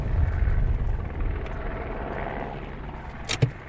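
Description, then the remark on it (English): A British Army helicopter flies overhead above an unapproved road, its deep, throbbing rotor drone filling the air steadily. It thins slightly over a few seconds, and a brief sharp knock comes near the end. “Your car caught in an arc of light from a British Army helicopter on an unapproved road, eyes framed in the rear view mirror, lost.”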